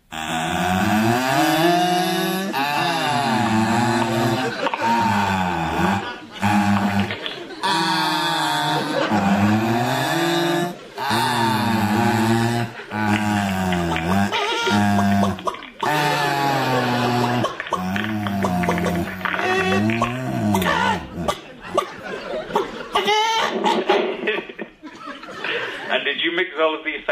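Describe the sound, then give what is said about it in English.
A voice imitates clucking hens at the end of a vocal rendition of a theme tune, in place of the seagulls in the real theme music: a long run of loud, warbling vocal bursts with rising and falling pitch, turning raspier and choppier toward the end. “I can't do seagulls. I thought I'd do some nice hens instead.”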